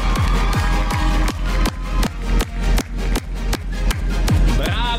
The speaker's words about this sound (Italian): La vincitrice è Livia. Ah, è un applauso per Livia. Il cancan è per lei.